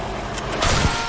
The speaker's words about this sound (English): There goes that car. That's the unhappy car.